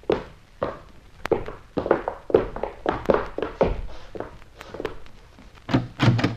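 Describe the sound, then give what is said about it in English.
Firm, hollow raps on a wooden cabin door, repeated many times in uneven bursts over several seconds, fairly loud, with no voices. “Come in, gentlemen. The door's open.”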